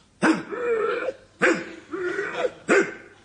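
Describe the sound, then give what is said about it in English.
A person imitates a dog barking with three loud, rough vocal bursts, each sharp onset trailing into a wheezy, strained tone, spaced about a second apart with no other talk. “Well, now, does this sound anything like a dog?”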